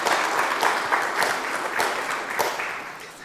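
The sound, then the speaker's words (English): A conference audience applauds steadily, many hands clapping in a dense, continuous patter that stays fairly loud before tapering slightly toward the end. No one speaks. “They deserve a round of applause by the audience.”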